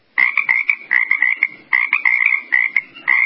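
A frog croaks loudly in a steady run of rapid, rattling calls, broken into short bursts with brief pauses between them. No one is talking.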